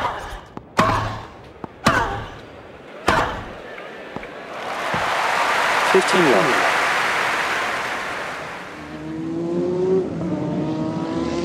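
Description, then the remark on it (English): A few sharp, hard thumps ring out before a loud NASCAR race car engine roar swells in, sustains, then drops in pitch as the car rushes past on a steeply banked half-mile oval in a stadium, followed by another engine whine fading in. The cars put out about 140 decibels. “I was doing American car racing, they call it NASCAR, and this particular race was a half-mile oval, and essentially what would be considered a football-type stadium with very high banking.”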